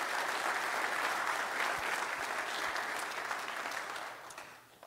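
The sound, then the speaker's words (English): A crowd applauds the library staff who put an evening together, with steady, dense clapping that holds for several seconds before gradually thinning and fading out. “So let's give them a round of applause, because it was very enjoyable.”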